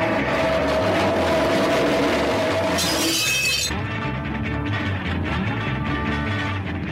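A metal folding chair is dragged harshly and loudly across the concrete floor of a recording studio, then a glass is broken with it in a bright burst midway through, followed by more dense, grinding noise. No voices.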